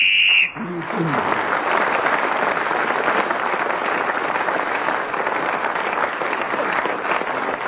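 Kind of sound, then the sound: crowd, loud audience applause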